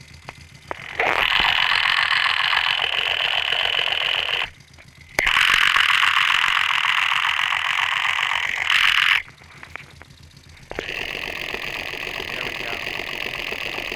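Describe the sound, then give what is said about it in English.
Loud churning gurgle of oil circulating at an engine's oil pump, by the spinning oil filter, steady with a faint ratcheting texture, heard in three long stretches separated by brief quieter gaps, with no talking. “I wonder if I put this over by the oil pump, if you can hear oil circulating.”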